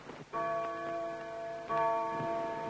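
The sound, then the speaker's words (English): A wall clock strikes twice at midnight, each loud, resonant chime ringing out with sustained, slowly fading tones. No one speaks. “Did you hear that? They glance at Leon's wall clock. It's 12 o'clock. It's midnight.”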